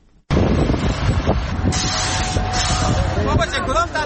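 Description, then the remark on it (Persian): Heavy construction machinery runs loudly, a dense engine roar and rumble that kicks in abruptly and holds steady, with a thin mechanical whine and some rattling clanks toward the end; giant machines at work building a large underground market in the centre of Charikar, capital of Parwan province. “اینجا ماشین های غول‌پیکر در حال کار هستند.”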